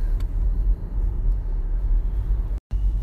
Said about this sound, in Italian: Tra l'altro oggi almeno da me in Veneto iniziano le scuole, quindi c'è quasi il doppio del traffico che c'è di solito, quindi partenza prestiva da casa.